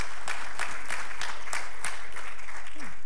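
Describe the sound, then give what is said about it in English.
Audience applause for representatives of Project Touch, Circle of Care and Birth Choice called to the stage: a dense, steady patter of many hands clapping, with sharper individual claps standing out at a regular pace throughout the three seconds. “They deserve a better applause than that.”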